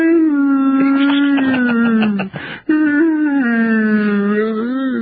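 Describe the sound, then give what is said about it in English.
A person imitates a dog howling, a loud, sustained wavering tone that dips briefly with a breathy catch midway before resuming the long, drawn-out howl. “I'm going to have to do a new howl for that one.”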